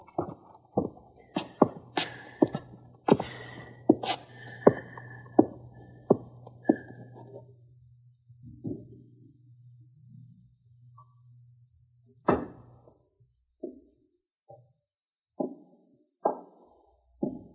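A quick, steady series of hard footsteps descends stairs, each step a sharp thud, before slowing into a few scattered steps. No one speaks.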